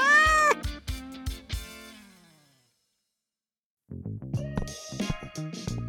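cat meowing

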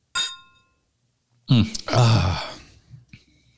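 beer glasses clinking

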